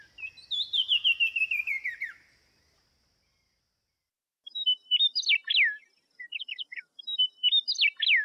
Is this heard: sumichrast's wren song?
yes